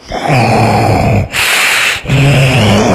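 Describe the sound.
Loud, rasping snoring: two long, buzzing low-pitched snores separated by a harsh, breathy hiss of air, with no talking.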